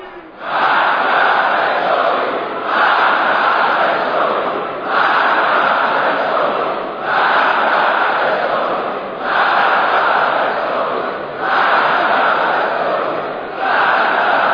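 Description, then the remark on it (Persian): A huge crowd of Iranians chants slogans loudly in unison on Quds Day, the roar rising and falling in a steady rhythm with a brief dip roughly every two seconds, continuous throughout. “یک بار دیگر ملت ایران نشان داد که در مواقع حساس سخن خود را با رساترین فریاد به گوش مردم دنیا میرسانه.”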